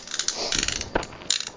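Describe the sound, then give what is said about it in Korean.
A small toy mechanism whirs and clicks in a rapid, uneven ratcheting rhythm, with a few sharper ticks standing out, as a toy elephant's trunk moves. No one speaks. “응코끼리코가움직이네소리가삐삐삐삐나면서이거이렇게돌아가는건가”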